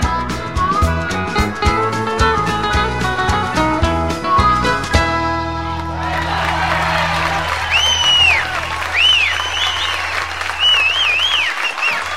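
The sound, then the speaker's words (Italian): A song ends on a loud final chord, then a crowd bursts into sustained applause, with sharp high-pitched whistles rising over the clapping near the end. “Okay, diciamo che si possono anche sfumare gli applausi.”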